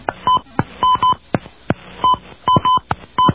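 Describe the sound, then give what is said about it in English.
Telephone keypad tones dial the area code and telephone number being reported into an automated phone repair line: a quick, uneven string of short, steady beeps, each paired with a sharp button click. No one speaks. “Please enter the area code and telephone number that you are reporting.”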